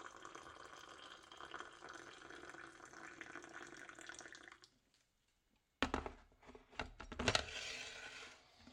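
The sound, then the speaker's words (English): Water pours steadily into a cup holding a tea bag, to make tea, for several seconds with a bright, rushing hiss, then stops; after a short silence come a few sharp clinks and knocks, with no one speaking. “Water.”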